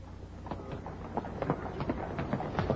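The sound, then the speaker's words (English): Hooves of a horse pulling a hansom cab clip-clop in a steady, uneven rhythm, fairly quiet over a low rumbling street background, with no voices. “The hansom, you mean? It's been dogging their footsteps as diligently as we have, though rather less subtly.”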